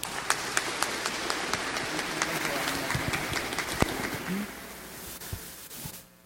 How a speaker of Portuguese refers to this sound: Muito bem, uma salva de palmas.